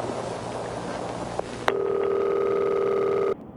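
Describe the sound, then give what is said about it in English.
A click, then one steady ringback tone from an outgoing phone call to the Frolicking Dolphin Rehab Center, a buzzy purr lasting under two seconds over low background hiss. No one speaks. “Let me, I call this the Frolicking Dolphin and find out just how long I'm going to be staying there.”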